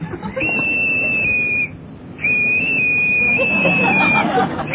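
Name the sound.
whistle blown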